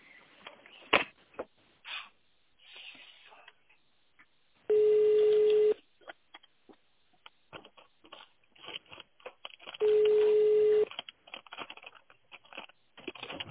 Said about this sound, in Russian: Здравствуйте. Пожалуйста, наберите внутренний номер абонента в тональном режиме или дождитесь ответа оператора.